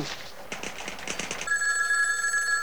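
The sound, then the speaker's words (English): A telephone bell rings with a rapid metallic rattling burst, then settles into a steady, bright high-pitched ringing tone that holds to the end. No one speaks. A call from the airport to Captain Over's wife. “give me Captain Over's wife on the phone”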